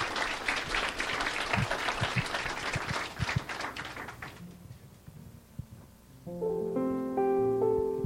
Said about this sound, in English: How many appreciate our special singers? Amen. Let's just give them all another hand clap of praise.